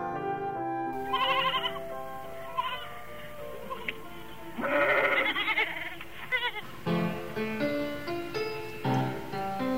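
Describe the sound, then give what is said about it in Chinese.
Sheep bleat repeatedly in wavering, quavering calls, several overlapping bleats, fairly loud, with a few short pauses between them and no talking. “喂完了鸭子，汤姆就跑去看他最喜欢的绵羊。”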